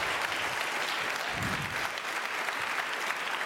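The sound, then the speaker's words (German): An audience claps steadily for two kids and teens standing on stage, a dense, even wash of many hands filling the whole stretch at a fairly loud, constant level, with no voices standing out. “Einen großen Applaus an diese beiden fantastischen Kids und Teens, die hier auf der Bühne stehen.”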